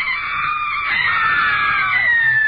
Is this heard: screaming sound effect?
yes